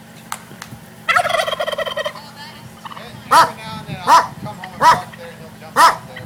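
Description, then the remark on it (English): A pet wild turkey perched on the toolbox of a pickup truck at Florida's Green Swamp, on the way from Dade City, lets out a rapid, rattling gobble lasting about a second, followed by four loud, evenly spaced barks from the truck owner's dog. “On the way to the expedition from Dade City, I spot a wild turkey perched on the toolbox of a pickup truck.”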